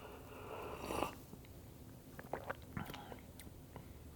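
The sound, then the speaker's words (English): Quiet mouth sounds of someone slurping and sipping a coffee substitute drink: a soft airy slurp, then a few small wet clicks and gulps with short pauses between them. “But you are getting lots of sounds of me drinking right now and slurping, so I'll make sure to turn those down when I edit this.”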